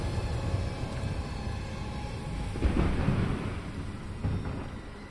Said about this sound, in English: Then it happened. A flash of light obscured the area as a bolt of lightning struck down, zigzagging its way towards the docks. Towards James.